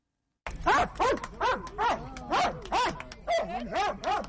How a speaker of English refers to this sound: That's Senna. She's a 9-year-old Belgian Malinois, the dog breed of choice for experts securing areas where there are landmines and unexploded bombs and shells. She's a veteran mine detection dog who sniffed her way across 1.5 million square meters